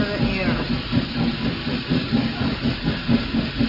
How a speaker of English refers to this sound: The sound from yesteryear. The chugging of the steam train. You go back to another era. The chugging of the train. It takes you back in time.